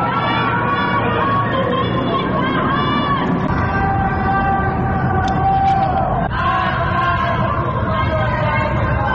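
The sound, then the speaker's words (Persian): A crowd in Tehran neighborhoods including Ekbatan and Saadat Abad chants protest slogans such as "death to the child-killing government" on Saturday night, many voices in unison blending into a loud, steady roar that carries on throughout, with sustained vocal tones rising above the dense babble. “شامگاه شنبه هم در مناطقی از تهران از جمله شهرک اکباتان و محله سعادت آباد صدای شعارهای اعتراضی از جمله مرگ بر حکومت بچه کش شنیده می شد.”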